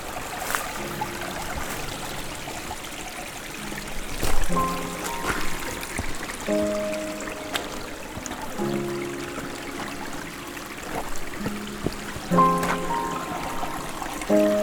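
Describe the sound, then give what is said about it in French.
A mountain forest stream trickles and laps steadily, with small gurgling, bubbling tones popping up throughout over a constant wash of flowing water, with no voices. “C'est dans ce dos clapotis, fraîcheur mentholée de la montagne, que je vous laisse.”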